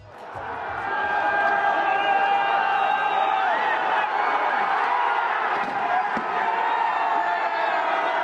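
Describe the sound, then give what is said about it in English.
In Kiev, Ukraine, a large crowd of protesters cheers, shouts and whistles in a loud, continuous roar for the whole stretch, with a couple of sharp smashing blows near the end as they smash a statue of the Bolshevik leader Vladimir Lenin. “The sound in Kiev there, protesters smashing a statue of the Bolshevik leader Vladimir Lenin, a symbol of the Soviet dominance of Ukraine during the Cold War.”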